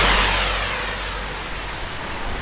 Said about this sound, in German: Schon wieder sowas. Dieses Mal ist es, glaube ich, ein Auto oder so.